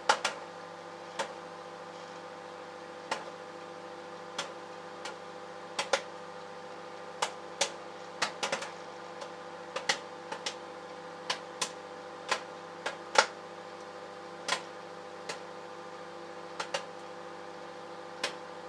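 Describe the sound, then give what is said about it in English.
Popcorn pops inside a running microwave: sharp, irregular cracks over a steady electrical hum, growing busier in the middle before thinning out again. No one speaks. “Well, we now have fireworks by the sound of it going off inside the microwave.”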